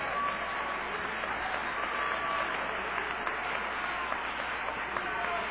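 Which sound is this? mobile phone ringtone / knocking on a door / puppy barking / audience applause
audience applause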